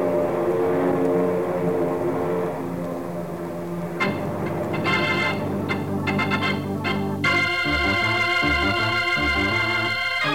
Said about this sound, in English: There's General Lopez's command post, down on the edge of the field, next to the section they've marked off for the mock aerial attack. Here come the planes now, ready to drop their eggs in the Citadel.